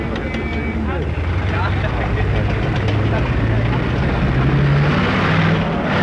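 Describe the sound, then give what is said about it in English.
Medium tanks roar into a military headquarters alongside trucks with troops, in a steady, loud wall of deep engine rumble and grinding mechanical noise that never lets up, with indistinct voices buried in the din. “You can hear the tanks roaring in now to the headquarters here, military headquarters.”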